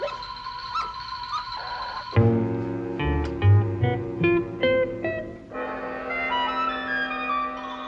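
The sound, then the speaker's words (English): A collie whines and whimpers in drawn-out, wavering cries, with a few sharper yelps and barks mixed in. The sounds run continuously for several seconds, moderately loud, with no talking. “That dog, that collie dog, he doesn't like me.”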